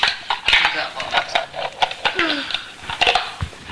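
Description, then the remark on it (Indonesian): A spoon clinks repeatedly against a glass in quick, uneven taps while stirring sweet tea, bright and sharp, with faint voices murmuring underneath. “Aku bikin teh manis ya.”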